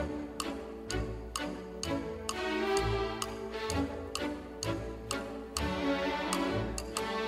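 Orchestral music with a steady, prominent woodblock ticking like a clock, crisp regular clicks over sustained strings and a bouncy bass line, no voices.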